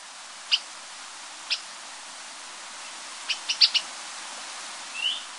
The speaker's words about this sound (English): In 1973, a bunch of Hawaiian college students found a funny-looking little brown bird with a chirpy call and a stripe around the middle of its head that made it look like the Lone Ranger on the side of a mountain in Maui.